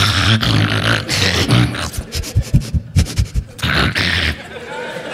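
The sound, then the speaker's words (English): A person does a quick impersonation of their dog Blossom: breathy, scratchy huffs followed by a run of short, rhythmic yapping bursts, loud, then more raspy panting noise. “So I got the cognitive behavioral therapy, and about the same time, I got my dog Blossom, who was a quick impersonation.”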